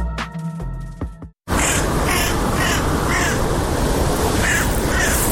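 A short tonal musical sting cuts off, then a crow caws repeatedly, harsh calls spaced about half a second apart over a steady, rushing outdoor background.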